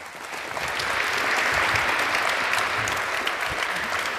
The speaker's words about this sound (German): Vielen, vielen Dank und das ist nochmal dein Applaus.